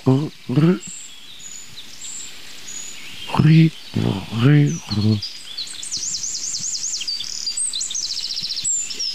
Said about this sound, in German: Also ich sag mal, dieses hohe C, das klingt für mich fast wie Jungvögel. Könnten das Jungvögel der riesigen Gartenbaumläuferfamilie sein? Das klingt so gartenbaumläuferisch.